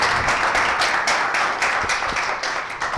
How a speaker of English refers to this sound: Please give these panelists a round of applause. We're really happy to have them here.